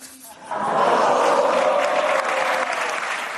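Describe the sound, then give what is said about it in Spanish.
An audience on the Movistar TV show La Resistencia, hosted by Broncano, breaks into applause after a brief quiet start in response to Gerard Piqué, a dense, steady wash of clapping mixed with crowd noise that stays loud and sustained to the end. “Bueno, arrancaba las palmas, pero no sé cómo lo habrá sentado los del Real Madrid.”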